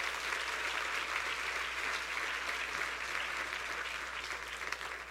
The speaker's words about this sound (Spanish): Si ese es el aplauso, yo no sé.